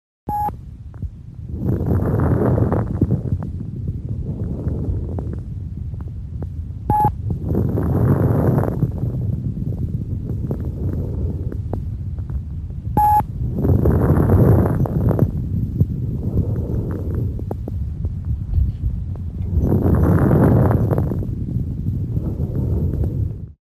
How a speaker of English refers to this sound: Now listen to this recording of high-pitched or fine crackles typical of interstitial lung disease and heart failure. The beeping sound at the beginning of some of these recordings denotes onset of inspiration.